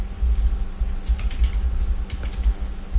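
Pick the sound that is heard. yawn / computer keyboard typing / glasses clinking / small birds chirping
computer keyboard typing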